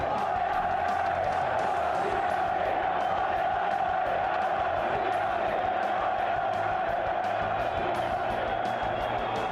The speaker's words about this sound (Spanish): Pero el martes, en el Calderón, hubo división en la grada. Desde el fondo se grita a favor de Simeone y una parte de la afición lo recrimina con pitos